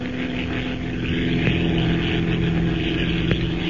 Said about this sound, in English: With its twin motors purring in an even, steady rhythm, the gray transport plane slips through the cloudless night sky like some giant bird, leaving the rolling deserts of Arabia behind it and pointing its blunt nose toward Egypt.